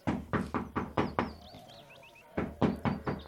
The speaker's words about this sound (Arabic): ولما دخلت البيت وشاهدت صغارها فرحت بهم، لكنها بعد قليل سمعت طرقا على الباب.